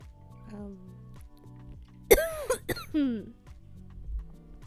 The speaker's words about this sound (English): Smoking kills, guys. I'm joking. That's not a smoker's cough. That's, COVID, baby.